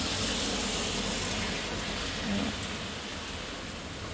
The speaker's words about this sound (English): Oh, here comes the car. I don't know how loud that's going to be.